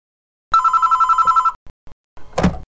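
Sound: telephone ringing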